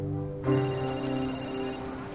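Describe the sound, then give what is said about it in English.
A telephone rings with a bright, sustained electronic tone that starts abruptly after a brief quiet moment and holds steadily at moderate volume, with no voices. “Jackson reaches for his phone.”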